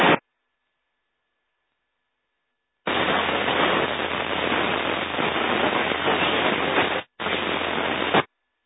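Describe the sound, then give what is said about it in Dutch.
Dense hiss of radio static during an amateur radio net check-in round fills several seconds after a stretch of silence, broken by a brief cutout, with a weak transmission buried in the noise and no clear voice emerging. “Dat was heel erg in de ruis. Ik kon het zo niet horen.”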